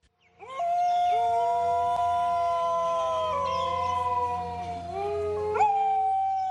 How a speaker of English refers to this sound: Dingoes are descended from South Asian wolves. They rarely bark but tend to howl. They're thought to have arrived in Australia with Asian seafarers about 3,500 years ago.